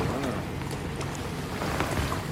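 A kayak moves across the still water of a fjord surrounded by mountainous terrain and waterfalls, with a steady rush of wind buffeting the microphone and faint splashes and drips from the paddle scattered throughout.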